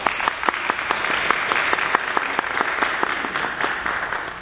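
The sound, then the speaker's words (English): A crowd of people at a Lakeside church service clapping steadily for the guest speaker and his family, a dense, sustained wash of applause with sharp individual claps standing out, moderately loud and continuous throughout with no talking. “I would like all of you to join hands and give Scott Dietrichson, our guest speaker, and his family a big round of applause.”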